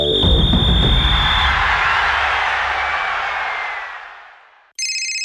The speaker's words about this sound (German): Bei Sepp Blatter klingelt das Telefon.